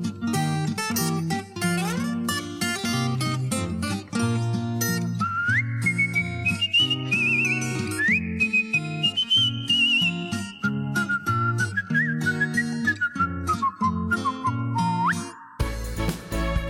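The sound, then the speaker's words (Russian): A clear, melodic artistic whistling tune glides and trills above a bouncy instrumental accompaniment, loud, carrying through most of the passage before the music breaks off near the end. “Она у ног его спала с художественным свистом.”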